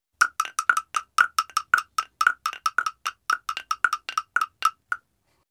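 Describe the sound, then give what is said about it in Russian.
Bells ring in a quick, steady run of about two dozen bright metallic clangs, each short with a ringing overtone, evenly paced for roughly five seconds with no voices. “«Слышите, как красиво звонят?» – спросил цыпленок.”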